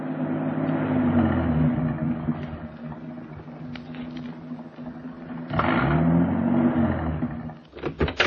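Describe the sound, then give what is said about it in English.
A car engine labors steadily as the vehicle climbs up into the Hollywood Hills as it gets dark, a low sustained drone with shifting pitch and a surge partway through, continuous with no voices. “It was getting dark now, and the car was climbing.”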